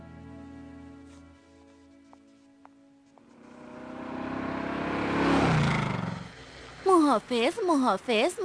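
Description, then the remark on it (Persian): A car engine hums at idle, then revs up into a swelling roar as the vehicle pulls away. Brief high, wavering voice-like sounds follow at the end. “بیا کوین، باید با ماشین بریم.”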